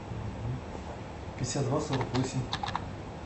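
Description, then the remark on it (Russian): Rapid keyboard typing as an email address is entered, a quick cluster of crisp clicks starting mid-way and continuing in uneven bursts, over a low hum with faint voices in the background. “Вам проще самим набрать. Она у вас все печатает.”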